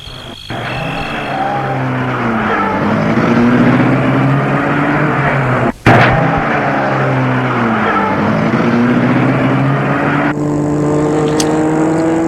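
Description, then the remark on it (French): A car engine runs loud, its pitch climbing as it accelerates, with a brief sharp break midway before the steady engine drone carries on, as the car leaves a villa in Charbonnières to drive home to Lyon. No voices. “Il va prendre sa voiture pour rentrer chez lui à Lyon.”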